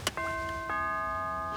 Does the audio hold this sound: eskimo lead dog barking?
no